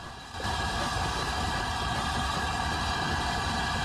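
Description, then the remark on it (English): The historic Flying Scotsman locomotive with about a dozen maroon carriages rolls along steadily through open countryside, its continuous low rumble and broad mechanical roar joined by faint tonal hums riding above. The sound stays loud throughout, with no voices. “Now the train's out again into open countryside.”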